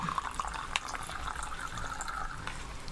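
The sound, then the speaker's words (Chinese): Clear, odourless water from the Ganges river pours steadily, a continuous splashing trickle with a few brief drips and bubbles early on, running for the full few seconds with no voices. “唔好啊，都好清澈，佢係水嚟嘅，真係 水嚟嘅， 好乾淨嘅，睇落去 係啊，恒河水清澈嘅， 聞落係冇味道嘅， 聞落係冇味道啦。”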